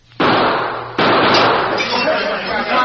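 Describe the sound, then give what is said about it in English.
Two loud gunshots fired at the lamps during a cafe holdup, roughly a second apart, each a sudden sharp crack followed by a long, noisy rumbling decay that carries through to the end. “Then I threw some shots at the lamps to cover my getaway.”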